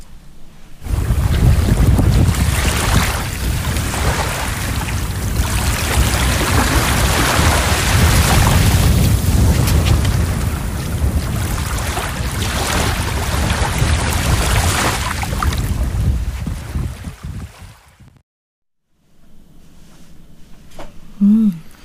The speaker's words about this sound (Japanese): まずは実際にですね、はい、あの今回石狩の熱田にあります蒙来というところがあるんですけども、こちらの海に行ってきましたので、はい、まずはこの石狩の海で録音した実際の波の音をお聞きください。